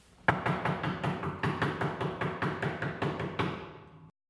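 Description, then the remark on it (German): Heavy, rapid pounding on an apartment door by the building caretaker, about a dozen hard thuds in a steady insistent rhythm, loud, with no voices. “Sofort kam der Hausmeister angerannt und hämmerte gegen Frau Schmidts Wohnungstür.”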